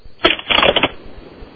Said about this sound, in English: The paper bag.